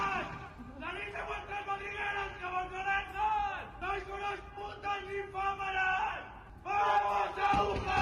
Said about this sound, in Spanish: Gritos a las residentes del colegio de enfrente, el Santa Mónica. En el Elías Aguja conviven 174 estudiantes.